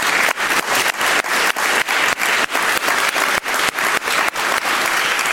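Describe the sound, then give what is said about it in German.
A crowd at an event claps steadily and loudly for the event's volunteers, a dense wash of many hands with no break for several seconds, full like a large audience. “Applaus.”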